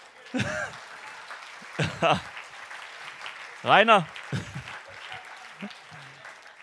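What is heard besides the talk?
audience applause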